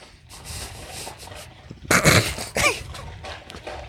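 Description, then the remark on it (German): The neighbour's dog barks twice in loud, sharp bursts midway, the second following quickly after the first, with a few fainter yips and rustles before and after. No one speaks. “Hier hören wir wieder den Hund des Nachbarn.”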